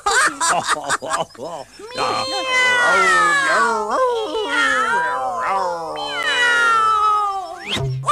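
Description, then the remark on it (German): A cat meows loudly: a few short calls, then long, drawn-out wavering yowls that rise and fall in pitch for several seconds. “Na, die Katze? Miau.”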